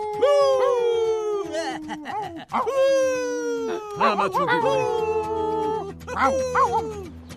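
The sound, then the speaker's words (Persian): Several dogs howl and whine together, long wavering cries sliding downward in pitch and overlapping one another, loud, with fresh howls rising every second or two. “سگای الماسی دوباره کولک کردن.”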